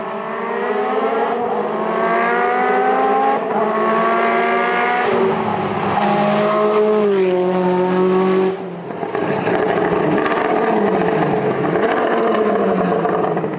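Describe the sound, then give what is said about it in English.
A Group B rally car engine, officially rated at 550 horsepower, roars loudly, revving hard through rising gear changes with a sharp shift near the middle, then screaming on at full throttle with no voices. “But somehow, the engine handled it and took all that air and produced an incredible, officially rated 550 horsepower.”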